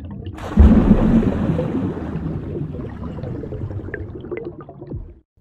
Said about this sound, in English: just leave a message after the sploosh.